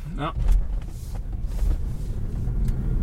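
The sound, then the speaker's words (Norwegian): A car drives down a road beside a footpath toward a kindergarten, with a steady, low engine and tyre rumble that stays even throughout, and a short burst of voice near the start. “Ja, bare kjør ned der. Prøv det da. Ned mot denne barnehagen.”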